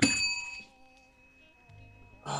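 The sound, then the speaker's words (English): A bell is struck once with a loud, sharp onset, then its bright ringing tone hangs and slowly fades over a couple of seconds before a burst of noise cuts in. “Ring the bell.”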